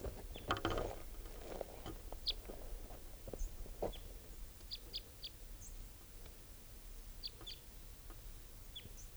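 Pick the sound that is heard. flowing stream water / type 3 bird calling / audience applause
type 3 bird calling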